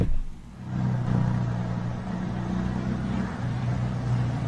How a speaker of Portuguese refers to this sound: Agora você já pensou, você tá chegando na rodoviária Cleuit Costa e de repente o ônibus entra com tudo e rebola pedaço de telha pra todo lado.